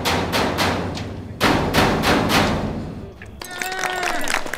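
Loud, rapid hammer blows on hollow metal dumpsters by a performer, a dense clattering barrage of strikes, which gives way near the end to lingering metallic ringing tones.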